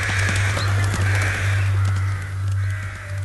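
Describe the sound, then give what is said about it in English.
A rook caws harshly four times in steady succession, loud, over a constant low droning hum, with no voices present. “On some signal, which human observers have been unable to identify, either the birds take wing as one, leaving the lone rook alone in the field, or again, as one, they fall on the bird and peck it to death.”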